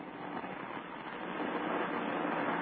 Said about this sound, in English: this is one of our 6 weekly mile-long garbage trains. Can you just hold the phone out the window for a second? I'd like to hear this. Okay, the engine already went by, but this is just all the cars. There's some traffic and stuff, too.